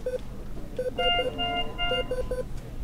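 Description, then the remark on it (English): Hospital patient monitor alarms from machines monitoring patients or keeping them alive beep in overlapping patterns: quick repeated mid-pitched blips alongside longer, higher sustained tones, with a steady low background hum and no talking. “The machines monitoring patients or keeping them alive, they beep and buzz all day long.”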